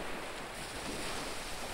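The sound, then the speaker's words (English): Waves lap onto a sandy shore in a steady, hissing wash of water, fairly soft with a faint breath of wind and no one speaking. “Watching the waves lap up on the sand.”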